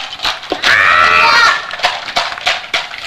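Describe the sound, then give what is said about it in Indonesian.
A horse calls out once in a loud, quavering whinny lasting about a second, with scattered short voices and background noise around it. “Tuh nyari temennya deh. Apa? Kudanya.”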